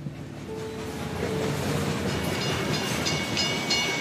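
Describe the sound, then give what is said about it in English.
A train rolls steadily along the rails, a continuous loud rumble with a faint tonal whine and occasional rattling clatter, growing slightly louder midway. No one speaks. “So he started traveling by train.”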